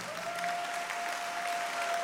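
A church audience claps steadily during a sermon, a dense wash of overlapping hand claps sustained without a break, with a faint high tone running through it.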